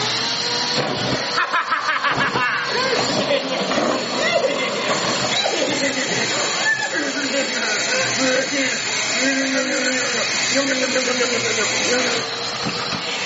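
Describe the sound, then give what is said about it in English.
A vacuum cleaner runs steadily for over ten seconds, a loud, broad rushing hiss with a wavering mid-pitched whine shifting underneath as it sucks up a mess. “It's a vacuum and you're gonna suck all this up.”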